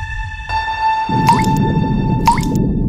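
Water dripping from a wet sponge into a bucket while washing a car: two distinct drips about a second apart over a soft, wet, squishy rustle and a steady ringing tone, with no one talking.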